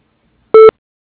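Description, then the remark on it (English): A single short electronic beep, a steady mid-pitched tone lasting under a fifth of a second, sounds alone against silence: the answering machine tone of Coding Concepts signaling to start recording a message. “Please leave a message at the tone.”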